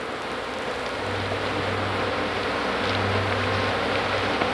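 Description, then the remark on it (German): A dense, continuous buzzing of many flies swarming over cow carcasses, with a low droning hum rising and fading in waves over a steady hiss of background noise; no voices. “Das Summen, das ihr gleich hört, sind Fliegenschwärme, die Kuhkadaver befallen.”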